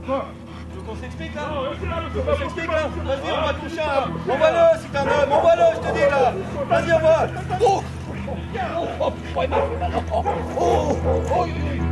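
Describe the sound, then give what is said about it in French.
A police dog barks and yips excitedly in rapid, repeated bursts, loud, with a few whimpering whines, while people's voices shout and murmur in the background throughout, during a police training exercise in which the dog chases a fleeing person and slams into his back. “Donc vous avez vu, le chien il percute avec tout son élan dans le dos de l'individu qui prend la fuite.”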